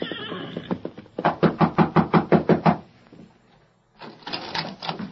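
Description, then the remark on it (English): Someone knocks on the rear door of a cafe in a rapid, insistent series of about a dozen loud raps, pauses briefly, then resumes knocking more faintly and quickly. “Sometime later, a grim-faced rider dressed in the gray denim of a prisoner flung himself from the back of an exhausted horse and knocked at the rear door of the Rainbow Cafe.”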